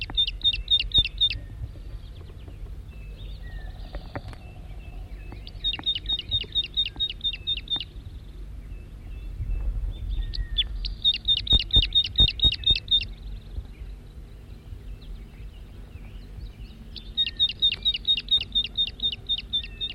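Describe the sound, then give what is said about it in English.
A wild male crossbill, recorded at close range, gives rapid strings of high, sharp chirping calls in four separate bursts, each a second or two long, over a low background rumble with no talking. “Wild bird, stop. It's recording the wild male again from close range.”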